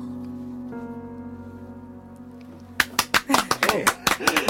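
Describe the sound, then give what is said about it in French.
A held, humming musical tone gives way to a burst of applause in a radio station's control room after a live performance: loud, scattered claps from a small group, irregular and sharp, continuing to the end. “Et ça applaudit beaucoup en régie.”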